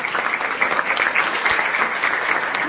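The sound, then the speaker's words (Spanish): An audience claps steadily for a singer, a dense, continuous wash of many hands patting at a fairly loud, even level with no voices standing out. “De hecho, en este momento tenemos la presencia de una de las voces consagradas de los últimos tiempos, que es …, a quien pedimos un aplauso.”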